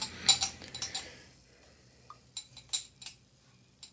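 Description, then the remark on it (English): Quiet fizzing of a heavily carbonated stout being poured and foaming in a glass, with a cluster of sharp crackles and light clinks early on, then sparser pops trailing off. No one speaks. “That is heavy on the carbonation if you can't even get an ounce in the glass.”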